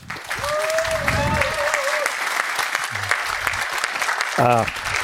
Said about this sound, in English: Yeah. Please have a nice applause for the talk.